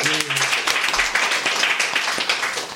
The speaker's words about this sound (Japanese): あれ、なんか今拍手とイエーなんて声が入りましたが 入った、ね、 実は第1回目の公開収録です。